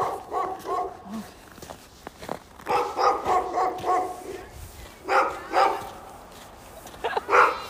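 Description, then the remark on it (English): A dog barks in a run of short, sharp bursts, then adds a few more barks after brief pauses, with light background noise between barks. “Hi, is that your dog?”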